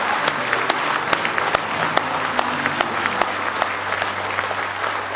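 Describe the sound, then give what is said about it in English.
A church audience claps together in sustained applause as praise to the Lord during a morning service, dense overlapping hand claps at a steady loud level for several seconds, with faint voices underneath. “Why don't you just give him one more big hand clap of praise this morning?”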